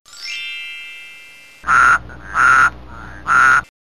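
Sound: toad croaking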